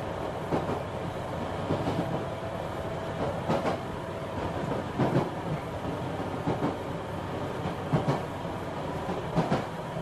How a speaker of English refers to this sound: Train tracks, if you can't hear it.